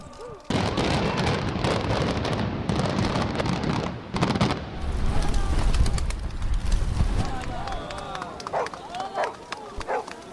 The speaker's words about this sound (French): Là, on voit vraiment, enfin, le voit de se décaler, et puis avec l'implosion qui est quand même, l'explosion qui est assez forte, ah, c'est bluffant.